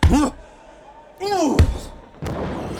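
Heavy wrestling body-slam impacts land about three times in quick succession, each a loud, booming thud with a short rumbling tail, mixed with brief strained grunting vocal sounds.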